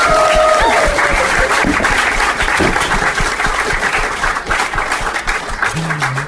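Loud, sustained applause from an audience fills the whole stretch, a dense steady clatter of many hands clapping with a brief tone and faint voices mixed in near the start.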